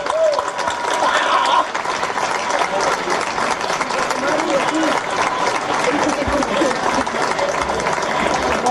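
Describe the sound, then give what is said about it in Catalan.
A crowd bursts into loud, sustained applause for this year's Santa Tecla pandonistes, a dense steady wash of clapping lasting several seconds with some indistinct voices mixed in. “Un fort aplaudiment.”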